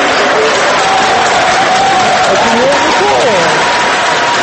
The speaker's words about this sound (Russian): члены избирательного штаба и сторонники партии «Гражданская платформа» приветствовали своего лидера Дональда Туска громкими овациями